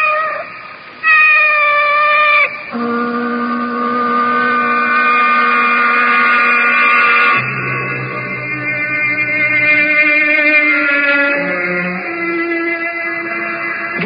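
A female cat with yellow eyes yowls in long, drawn-out wails, loud, its pitch sliding and shifting from one sustained cry to the next with no other voices around.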